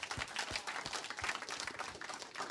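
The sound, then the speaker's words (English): An audience applauds Jesus Christ, a steady, dense wash of many hands clapping for a couple of seconds at moderate volume, with no voices rising above it. “And what I want to do is I want to applaud that.”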